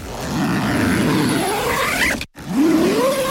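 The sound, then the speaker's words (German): A zipper is drawn closed in two loud, raspy pulls, the first long and steadily rising in pitch, then a brief break before a second rising zip. No one speaks. “Warum hier gerade jemanden einen Reißverschluss zugemacht hat?”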